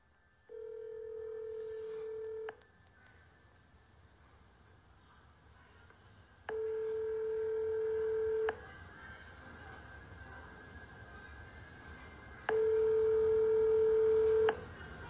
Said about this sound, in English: This is where they show up to. And this is the business right here. Sweet Angel Childcare in Minneapolis, Minnesota. Now, listen to where this phone number goes to when you call this child care center.